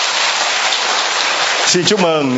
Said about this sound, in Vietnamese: Ai sẵn sàng ra đi làm tông đồ cho lòng thương xót Chúa, giơ hai tay. Rồi vỗ một tràng pháo tay.